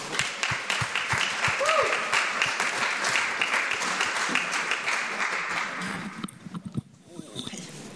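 An audience applauds steadily with dense, overlapping clapping for about six seconds, then it thins into a few scattered claps as it dies away. A brief whistle-like vocal sound pops out early on.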